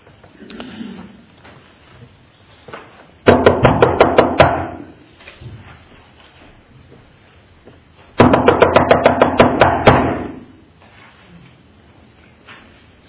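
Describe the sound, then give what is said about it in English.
Loud knocking on a door comes in two quick bursts of roughly ten rapid raps each, separated by a few seconds of near silence with faint background noise. “Is Pastor have somebody about to come through a door?”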